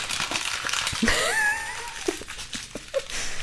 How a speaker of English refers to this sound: Wow, you're doing some Foley work. I didn't even crumple up the page that you brought.